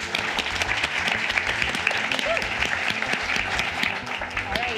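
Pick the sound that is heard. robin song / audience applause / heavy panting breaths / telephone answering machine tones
audience applause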